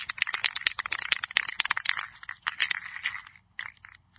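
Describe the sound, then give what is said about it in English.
A spray paint can is shaken hard before spraying over a star cutout template on a board, its mixing ball rattling in a fast, bright, clicking rhythm for about four seconds, with a brief pause near the end before a few last shakes. No one speaks. “Let's get a spray pan out and shake it.”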